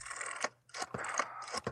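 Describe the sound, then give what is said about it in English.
A rotary telephone dial turns as 0 is dialed, with a rasping, whirring scrape broken by a few sharp clicks, over a faint low hum; no one speaks. “I'm going to dial 0.”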